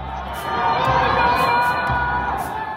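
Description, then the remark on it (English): Many voices scream and shout together in a sustained, echoing wash of sound: residents of Wuhan, China, locked inside their high-rise apartments during the city's lockdown, screaming for help, with no clear individual words. “residents of Wuhan, locked inside their high-rise apartments, screaming for help.”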